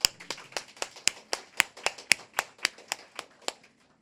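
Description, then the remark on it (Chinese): Steady, even clapping of about fifteen sharp claps at roughly four per second, each crisp and bright, gradually fading toward the end, given as applause to God at a church gathering. No one speaks. “所以给掌声，上帝是不会多的。”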